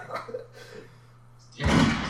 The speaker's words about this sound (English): Apparently a gunshot is a thumbs up.